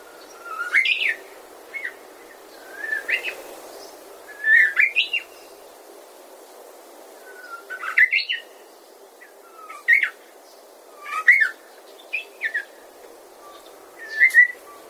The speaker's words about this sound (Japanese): おぼつかない鳴き声ですが、確かにウグイスです。全長およそ15センチで、サイズだけ見るとスズメとほぼ同じ。でもウグイスは尾が長いので、体はスズメより小さく見えます。